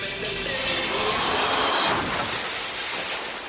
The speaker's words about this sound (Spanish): su auto se estrella contra el aparador de una joyería de lujo.